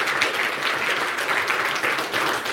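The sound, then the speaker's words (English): An audience applauds steadily for the speakers of a talk on Nixos Compose, a dense wash of many hands clapping at an even loudness throughout, with no voices over it. “Here, let's give a round of applause for”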